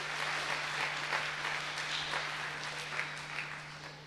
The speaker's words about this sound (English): And a big cheer for the glasses, please. Thank you.